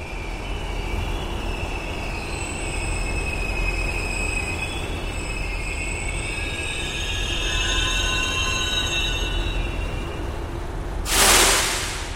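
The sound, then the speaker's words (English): A Miami-Dade Metrorail train in South Florida rolls into the station with a steady low rumble and high, whining wheel squeals, then a short, sharp hiss of released air near the end. No voices are heard. “The release of that air signals another Miami-Dade Metro Rail train pulling into the station awaiting a new load of passengers.”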